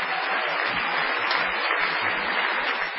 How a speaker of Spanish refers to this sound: Bueno, como ocurre en todas partes, la gente aplaude al intendente.